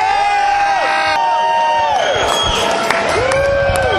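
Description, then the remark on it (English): A loud concert crowd in a packed house cheers and whoops continuously, with rising and falling shouts and whistles layered over a dense wall of noise as the lights go on, the curtains open and the band takes the stage. “It's a packed house tonight, though, isn't it?”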